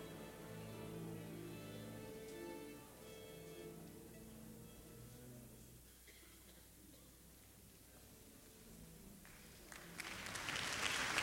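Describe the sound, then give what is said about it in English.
Sustained orchestral tones fade into a quiet murmur, then audience applause in Avery Fisher Hall swells in the final seconds as guest conductor Kurt Zonderling comes on stage for a New York Philharmonic concert, a dense, bright patter of many hands clapping that grows steadily louder. “The applause of the audience in Avery Fisher Hall greets guest conductor Kurt Zonderling as he comes on stage to begin today's Exxon New York Philharmonic broadcast concert with the prelude to Mussorgsky's Hovanshchina”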